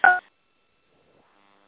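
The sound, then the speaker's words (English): A single short telephone keypad tone beeps clearly at the start as star 6 is pressed to mute a phone line, followed by near silence with only a faint murmur of background noise. “And if anybody is not on mute, please do mute your line by pressing star 6.”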